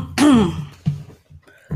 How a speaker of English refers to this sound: Why are you clearing your throat? Is it against the law? Clearing your throat.